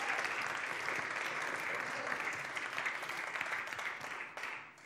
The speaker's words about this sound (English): Yeah, give them a round of applause.